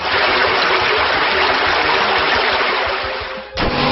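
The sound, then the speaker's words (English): A loud, steady gush of rushing water from the video game water attack drench roars for about three and a half seconds, dips, then ends with a short splashing hit as it strikes the foe. No one speaks. “So choose a death shot, drench, water, Hydric used drench.”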